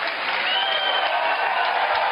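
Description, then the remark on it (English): A large crowd at a Trump rally claps and cheers steadily in answer to a poll on whether people should go through a process that gives them a chance. The dense, continuous wash of applause holds at an even, loud level throughout, with no speech over it. “How many think they should go through a process that maybe give them a chance? Clap.”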